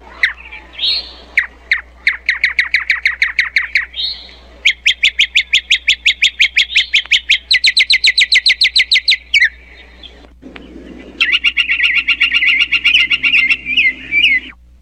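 A mockingbird named Billy imitates woodpecker and flicker calls: a series of fast, evenly spaced call notes, then a denser rattling phrase; the calls are loud, with no voices.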